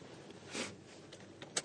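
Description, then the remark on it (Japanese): Quiet convenience store parking lot ambience: a low background hush with one soft, brief whooshing swell, followed by a few faint clicks and rustles. No one speaks. “今コンビニの駐車場でございます。”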